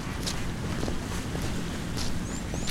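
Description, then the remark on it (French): Steady, blustery wind roars across the microphone with a dense low-frequency rumble, continuous and loud for the whole moment, with faint high whistles and no voices. “Non mais attendez, on va pas tout arrêter à cause du vent là.”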